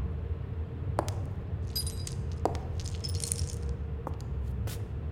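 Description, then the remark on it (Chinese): Custom-made metal chains on a person in a basement clink and jingle in a few scattered bursts, with sharp rattling taps and brighter shimmering links, moderately quiet over a low steady background hum. “别做没有用的挣扎了，你身上的锁链是定制的，没有我的钥匙，谁也打不开。”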